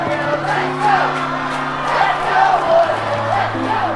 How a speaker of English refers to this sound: The teacher gazes around at the cheering throng and peers across to see a cherubic young child waving a Woodhill College flag.